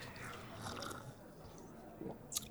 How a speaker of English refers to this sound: It's like a... We're slurping.